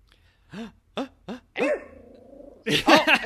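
A dog barks excitedly: three quick, sharp barks in a row, then a longer drawn-out yelp, clear, before a louder burst of mixed sound cuts in at the end.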